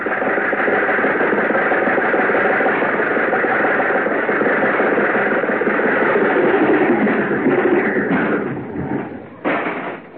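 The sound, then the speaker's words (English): A car engine runs with a steady, loud rumbling drone for about eight seconds as the car is driven around a drive-in theater, then briefly dips and surges before cutting back near the end. “I'm doing the driving.”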